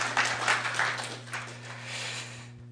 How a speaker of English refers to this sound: Oh, that got clapping.